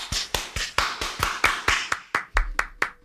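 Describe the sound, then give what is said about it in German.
Steady applause, a quick even run of about a dozen sharp claps from one or a few people, fairly loud, with no voices. “Ich finde, das verdient einen Applaus.”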